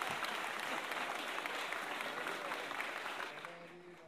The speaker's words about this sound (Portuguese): Então, vou pedir uma salva de palmas pros autores, que somos nós.